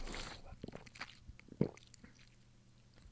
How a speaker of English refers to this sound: Anyways, I'm gonna have a sip of water. You guys are gonna have a sip of water. All right, we're gonna have a little sip together.